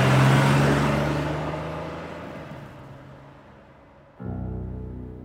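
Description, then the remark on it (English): A car engine roars loudly and pulls away as the car speeds off from the front of an airport, its rumble fading steadily over several seconds before a steady, low droning tone abruptly takes over. “climbs in and they speed off into the afternoon.”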